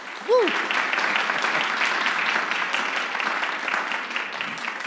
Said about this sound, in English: We'd like to give a round of applause to our guest tonight, Zach Esmai. Why don't we give a round of applause?